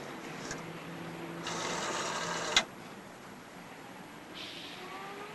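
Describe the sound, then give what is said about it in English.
A rotary dial on a coin-operated payphone spins back after a zero is dialed, a steady mechanical whir for about a second, ending in a sharp click. A faint tick comes just before it. No voices. “She dials zero on the phone.”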